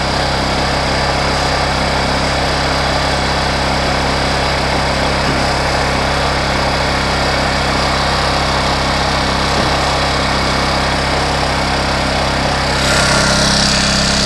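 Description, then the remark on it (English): A small 1,000-watt portable generator, weighing 28 pounds and rated at 52 decibels, idles steadily in eco mode at 59 degrees, its constant low hum and even mechanical drone unbroken, with a slight shift in tone near the end and no one talking. “52 decibels is the volume of that engine. 1,000 watts.”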